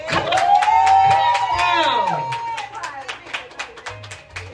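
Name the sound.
audience clapping hands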